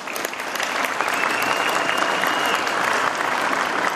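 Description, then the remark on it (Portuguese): A crowd breaks into a sustained round of applause for federal deputy Gleisi Hoffmann, dense and steady clapping that fills the whole stretch at an even, fairly loud level, with no voices standing out. “Antes de você sair, vamos bater uma salva de palmas para você, Gleisi.”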